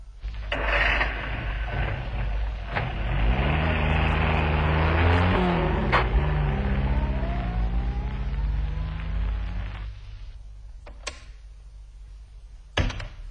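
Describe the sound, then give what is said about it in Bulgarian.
A car engine rumbles and revs, its pitch climbing and dropping through gear changes as it drives off, then falls quiet, leaving a few sharp mechanical clunks. “Колата. В София ще си поговорим по-обстойно.”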